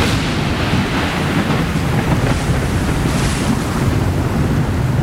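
Strong wind roars steadily over the open sea, buffeting the microphone while waves churn underneath; a loud, unbroken rush with no voices.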